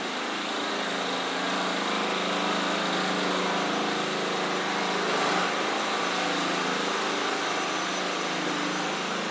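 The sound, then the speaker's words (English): A generator drones steadily throughout, a continuous mechanical hum with a buzzy, even engine tone and no change in loudness, with no voices over it. “Kind of generator noise coming from somewhere.”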